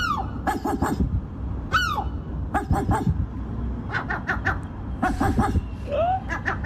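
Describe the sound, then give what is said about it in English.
A seagull gives a series of short, harsh calls that sound like a dog barking, coming in quick clusters of three or four, loud over a low rumbling background. “No, the seagull bloody barks.”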